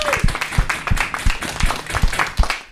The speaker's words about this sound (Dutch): Applaus voor jezelf. Applaus voor jezelf.